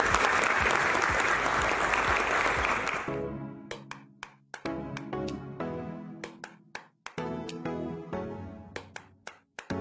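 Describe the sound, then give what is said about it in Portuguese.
A burst of dense audience applause for a startup presentation fills the first few seconds, loud, then cuts abruptly to a tune of sharp, rhythmic plucked notes with no talking. “Pessoal, vamos aplaudir.”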